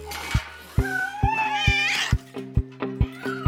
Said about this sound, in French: Oui, il y a du raffut dans les poubelles. Elle s'emballe, crache une ampoule, des boîtes de conserve, des épluchures de pommes de terre, du papier, du verre. La poubelle se renverse. Tout est par terre. Et qui sort de là ? Une horde de chats.